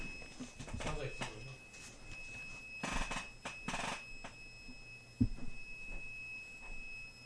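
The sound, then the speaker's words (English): A faint, steady high-pitched electronic alarm tone drones continuously somewhere in a studio, never pausing, while people talk and shuffle. “Do you guys hear a beeping? I hear a steady hum.”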